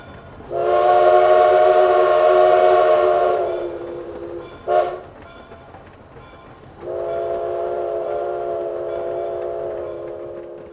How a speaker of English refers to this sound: Suddenly, there's a loud noise, and a train comes out of a tunnel into the station.